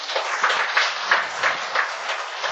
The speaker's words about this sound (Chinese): 我哋應該用熱情嘅鼓掌咧嚟多謝師父。